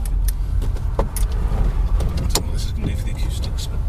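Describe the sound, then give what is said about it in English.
Low rumbling car interior noise with steady engine drone and scattered clicks and knocks, fairly loud and continuous throughout, with no clear talking. “More car noises.”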